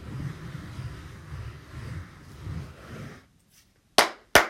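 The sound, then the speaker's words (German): Two sharp, loud hand claps with a brief pause between them, made while practising for a concert at home, following a few seconds of low, blustery rumbling and a moment of near silence. “Und klatschten auch rum und versuchten, ein Konzert zusammenzustellen.”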